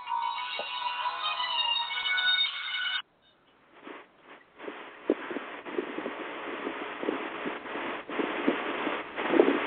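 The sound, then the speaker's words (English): An incoming phone call rings with a bright, tonal ringtone for about three seconds, then cuts off abruptly, leaving scattered rustling and handling noises. No one speaks. “Yeah, no, I had a phone call coming in.”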